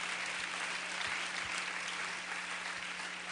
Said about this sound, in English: Give God a great big hand clap of praise.